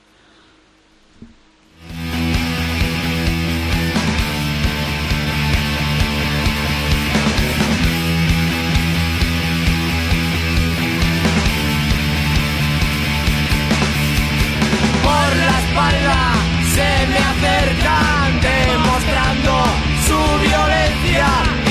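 A loud rock song bursts in after a brief quiet moment, with dense distorted guitars and drums driving steadily throughout; a vocal line joins later over the full band.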